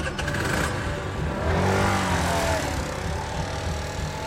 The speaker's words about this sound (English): He'll keep on fixing bikes, teaching little kids, and getting better at wheeling a moped. Nah, I'm going to try to wheelie it, though. Let's see.